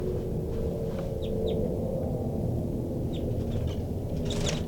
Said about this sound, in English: So recording, I'm in the cell now, and most of the birds are giving some calls.